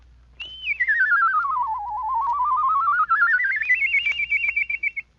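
A single clear whistle with a quick warbling vibrato glides smoothly down in pitch, then climbs back up high again, loud and steady with no voices.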